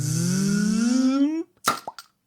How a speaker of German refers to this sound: mal hier den Korken rausgeschossen.